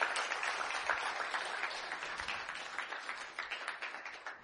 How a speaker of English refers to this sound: Can we give all that we have through giving one more time of applause to Jesus Christ our Lord?